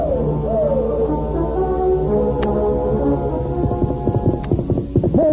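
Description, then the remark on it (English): Dramatic orchestral music with sustained brass tones, joined in its second half by a rapid, rhythmic pounding like several horses galloping as mounted riders race in pursuit, the hoofbeats mixed under the music. “In a moment, the Indians were mounted and racing in pursuit of Tonto and the masked man who carried him away.”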